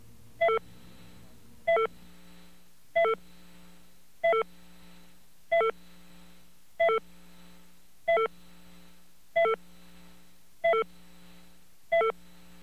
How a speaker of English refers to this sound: Okay, what we are doing now is... we are rewinding a machine. And when that machine rewinds, you will hear the entire phone call.